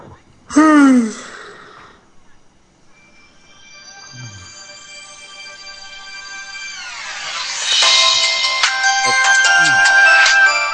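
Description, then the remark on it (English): Melodic game music plays from a phone speaker, starting soft and swelling into a bright, layered theme, with a short excited vocal outburst near the start and faint murmurs underneath. “You don't really get that nostalgia hit until you hear Prontera.”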